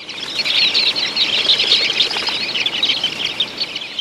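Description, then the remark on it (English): A flock of dunlins, small sandpipers, takes flight in a steady rush of wingbeats, mixed with a dense layer of high, thin chirping calls that continues throughout without pause. No one speaks. “It's a cloud of small sandpipers called dunlins.”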